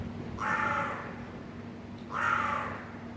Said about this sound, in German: Das höre ich, wenn ich die Fenster öffne. Altbau-Innenhof, 1030 Wien. Seit einigen Wochen wohnen hier auch Krähen.